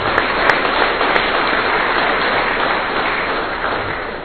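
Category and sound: crowd, audience applause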